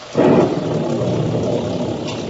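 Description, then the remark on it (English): A sudden loud, low rumble breaks in and settles into a steady, dense roar of heavy rain and wind, like a storm squall with thunder, lasting without letup; a squall with blinding rain on the ocean, engulfing people at a lifeboat. “Squall engulfed us now. The rain was blinding when one couldn't tell where it ended and the ocean began.”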